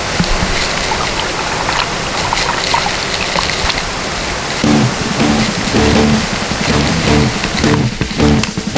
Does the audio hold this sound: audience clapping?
no